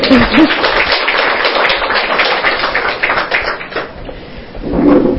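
Steady clapping from a group of people, a dense patter of many hands lasting about five seconds, fairly loud, swelling slightly again at the end.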